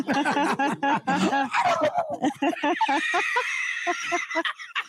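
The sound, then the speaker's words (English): Someone does a loud turkey gobble impression: a voiced warble that breaks into a quick, throaty run of rapid pulses for several seconds, with no other talking. “Wow, turkeys.”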